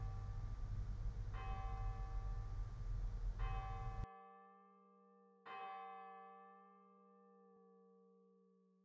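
A bell in a guided prayer is struck three times at unhurried intervals, each clear, resonant tone ringing on and slowly fading. Background noise under the first strikes drops away, leaving the last ring alone.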